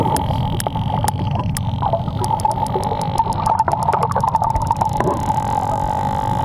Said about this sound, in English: Those are the sounds of a male sperm whale flirting. Oh! A new study published by the New York Academy of Sciences compares the volumes of that sound to some familiar ones.